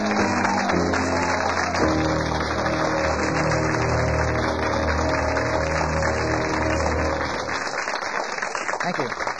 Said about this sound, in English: Kind of formal here with applause and everything, isn't it? It's kind of formal setup.